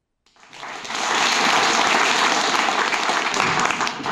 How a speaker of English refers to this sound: Thank you. I take that applause for some of these processes.